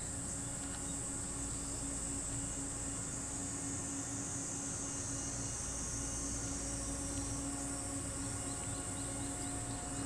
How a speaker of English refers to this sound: and we have come up to rural Kurama in the northern mountains. And what you can hear around me now is the frogs and cicadas, or cicadas, let's call the whole thing off, that make up the audio soundscape of rural northern Japan. Have a listen to this.